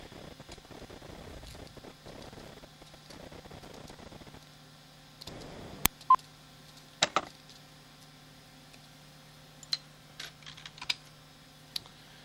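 Telephone keypad buttons being pressed to reconnect a call after the phone cut out: a scattered series of quiet, sharp clicks at an irregular pace, following several seconds of low rumbling background noise, with a steady faint hum throughout.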